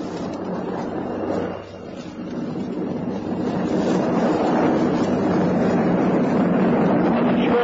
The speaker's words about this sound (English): Another sporting event was a new water speed mark of 249 miles per hour, established by Donald Campbell. See, Bluebird now for spray.